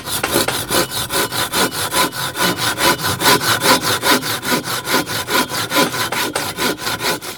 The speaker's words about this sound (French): C'est une scie japonaise. Parce que c'est une scie qu'on utilise en tirant. Les dents, elles sont orientées de telle sorte que pour couper, il faut tirer, alors que toutes les scies européennes, c'est plutôt en poussant.